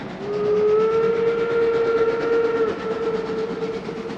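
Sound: train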